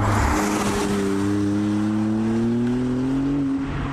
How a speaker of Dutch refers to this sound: Maserati is weer terug en we testen vanmiddag de Maserati MC20. Hebben ook wat geluid van.